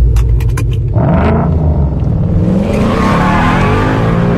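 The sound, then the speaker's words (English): A Mustang engine roars steadily with a deep, loud rumble, revving up as the pitch rises and the growl thickens over a few seconds, with brief ticking clatter at the start. “It has a much better roar now, though.”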